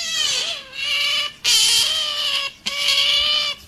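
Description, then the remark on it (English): An otter squeals loudly and insistently to beg for food, making three long, high-pitched, whining cries in quick succession, each a sustained kitten-like wail, with no talking. “No, he's begging for food.”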